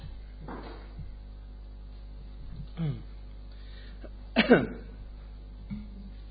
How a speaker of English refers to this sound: Could we open the back two doors? Because it's very warm. Even slightly, that would be good. Just let a wee bit, let air blow through. Just a wee bit. Just need to open the whole way.